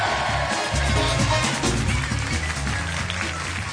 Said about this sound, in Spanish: Y después de estos aplausos que tantos merecéis